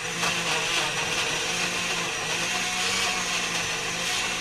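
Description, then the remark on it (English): A blender runs steadily and loudly, blending peaches, its motor whirring with a dense, grinding roar that holds constant for several seconds without any talking. “To the blender.”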